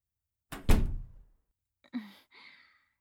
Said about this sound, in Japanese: 待って、人に見られちゃう。とにかく、一回部屋に入って。ドア閉めないと。